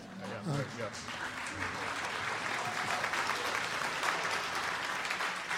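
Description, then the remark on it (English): Sustained audience applause at a live show, welcoming the show's sound effects artist, a dense wash of clapping that holds steady for several seconds, with a brief voice audible at the start before the clapping fills in. “If you don't applaud, we got to give him more money, so please applaud a lot.”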